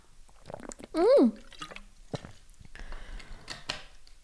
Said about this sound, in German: Ich kann auch mal kurz einen Schluck Wasser trinken.